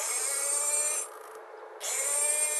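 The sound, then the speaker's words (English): Beluga (white whale) vocalizations from National Geographic's website, used for echolocation or basic communication: a sustained, buzzy whine with steady high tones. It drops to a quieter, muffled stretch for under a second, then resumes at full strength. No voices. “These sounds from National Geographic's website are for things like echolocation, like bats do, or basic communication, as in, "Hello, honey, I'm home."”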